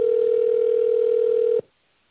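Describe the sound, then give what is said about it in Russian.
A telephone ringback tone heard on a call waiting for an operator to answer: one steady, mid-pitched electronic hum holding for about a second and a half before cutting off abruptly into silence. No voices are heard. “Пожалуйста, дождитесь ответа оператора.”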